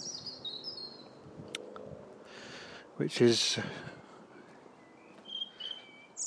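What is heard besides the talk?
birdsong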